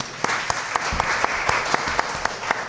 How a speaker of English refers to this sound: Hand clap